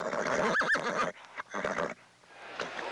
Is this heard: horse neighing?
yes